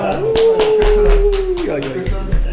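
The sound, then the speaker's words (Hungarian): A brief burst of clapping, sharp claps landing in a quick, steady rhythm, while a voice holds a long sustained note over them and other voices murmur underneath. “Ez a tapsvihar, ura!”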